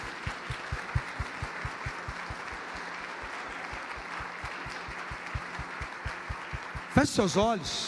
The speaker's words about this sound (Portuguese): Você pode se colocar em pé em nome de Jesus, você pode aplaudir Jesus enquanto você levanta, dá glória a Deus.